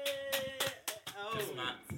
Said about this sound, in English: Hand clap.